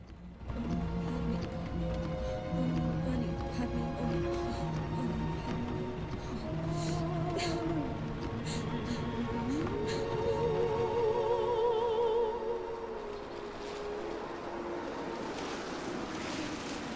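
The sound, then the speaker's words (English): A steady, dense hiss of rain drums on a car driving through a forest. A low droning hum runs beneath it, with sustained tones that slowly rise and fall. No one speaks. “The atmosphere is miserable and subdued, like the rain beating down on them from outside.”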